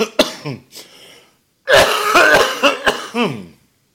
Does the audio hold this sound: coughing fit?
yes